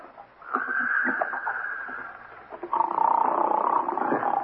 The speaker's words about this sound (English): Guy's snoring up a storm at 9.